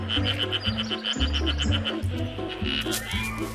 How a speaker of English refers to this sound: Male frogs call, then dozens are dotted about on twigs and branches reaching down into the water.